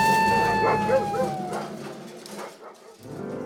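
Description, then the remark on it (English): Excitable golden retrievers getting off the leash bark and whine, with high, sliding yelps fading out over a couple of seconds amid a busy background murmur. “My dogs! They're getting off leash!”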